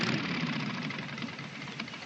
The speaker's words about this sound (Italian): Spegnete quel motore che mi si spaventa la bestia.